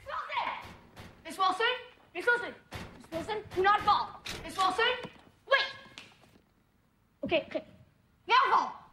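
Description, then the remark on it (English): A body drops flat onto the floor with a heavy thud, surrounded by several other sharp thumps and slams and bursts of vocal sound; a woman falls flat on her face as the ice encasing her falls away. “Miss Wilson falls flat on her face.”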